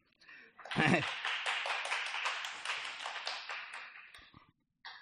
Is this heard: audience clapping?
yes